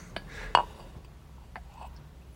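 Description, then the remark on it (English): Tea being poured into a cup: a short liquid rush with a bright ceramic clink in the middle, then a couple of lighter taps of china against china over a quiet background. “Pour me some more tea, please.”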